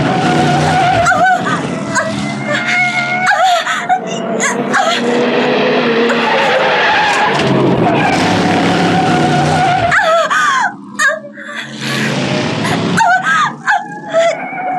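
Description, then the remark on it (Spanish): A car skids and spins out on an oil slick left on the road, with long, wavering tire squeals and a roaring engine, loud, the screeching continuing almost nonstop before briefly breaking off near the end. “No puedo detener el carro. Vamos a volcarnos.”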